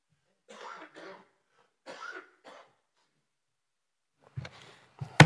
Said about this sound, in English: Let me have a coughing fit first.